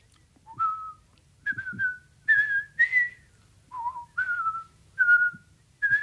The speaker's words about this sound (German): … pfiff also den Lillibulero.